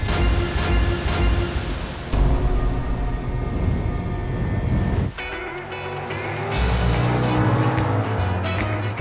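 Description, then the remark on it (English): Loud, continuous engine roar from racing cars at Daytona Beach, Florida, a dense rumbling drone that surges and shifts in pitch a few times as the vehicles race by, with no voices. “Daytona Beach can be a loud place. It's known for auto racing, motorcycle rallies, and beaches that draw throngs of tourists.”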